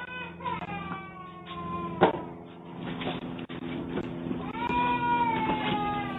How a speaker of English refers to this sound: And there's a kid crying already.